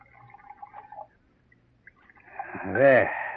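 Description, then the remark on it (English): Brandy is poured from a bottle into brandy snifter glasses, a gurgling splash whose pitch rises as it fills, loudest near the end after a quiet pause following faint murmuring. “I'll pour”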